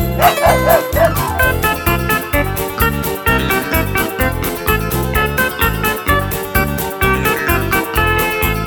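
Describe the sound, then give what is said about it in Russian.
Several quick dog barks ring out over a loud, steady, bouncy music track with a strong regular beat, the yaps clustered near the start and then carried along under the music. “Не успели сделать ход, как барбос разинул рот.”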